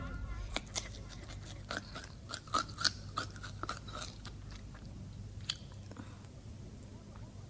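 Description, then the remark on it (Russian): Crunchy chewing of cabbage by a hare: a run of crisp, irregular bites and crunches with squishy munching between them, fairly soft, over a low steady rumble. “Отдыхает здесь душа, эх, капустка хороша.”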